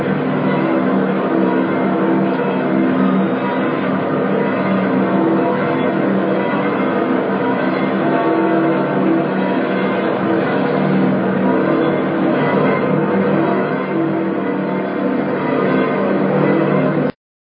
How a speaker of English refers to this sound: Let's just take a moment and listen to the bells ringing here in St. Peter's Square. Let's just listen.